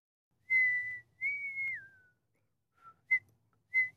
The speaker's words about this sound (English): And can you stop whistling, please? Anything you say.